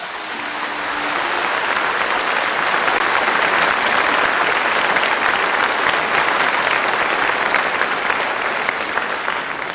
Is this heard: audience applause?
yes